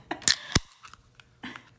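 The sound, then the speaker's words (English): A beer can or bottle being cracked open: a couple of sharp metallic clicks and a quick pop, followed by faint fizzing and small rattles, with no talking. “But I'm about to bust open a...”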